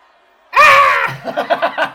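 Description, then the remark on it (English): A sudden, loud, harmonic vocal screech imitating a feral goblin war yell for the character Grizzop bursts out after a brief quiet, then breaks into choppy, rhythmic cackling bursts. “Give me a goblin yell, just one.”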